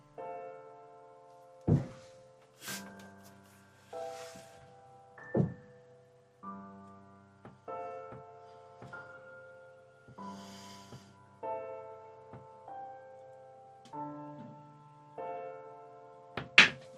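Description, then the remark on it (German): Heavy thuds of objects being thrown against a house strike at irregular intervals, a few loud bangs and some softer knocks, over a steady droning tonal background. No one speaks. “Wie gesagt, wenn ihr das Gepolter hört, das sind die Hater, die mit Sachen auf mein Haus schmeißen, wie die Psychopathen, die sie sind.”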